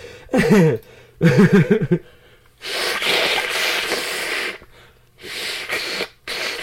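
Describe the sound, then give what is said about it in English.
Someone blows their nose hard into a Kleenex tissue, loud: two short honking snorts, then a long wet blast and a couple of shorter follow-up blows. “I'm gonna blow my nose, so it's gonna be loud.”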